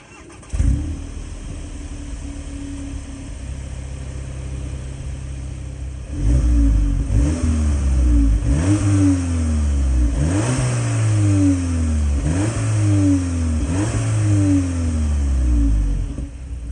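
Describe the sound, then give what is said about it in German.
A car engine cranks and catches, idles briefly, then is revved hard about five times in a row, each rev rising to a loud roar before dropping back. Loud, no talking. “Okay, dann würde ich jetzt sagen, hören wir erstmal rein, wie dieses Auto klingt.”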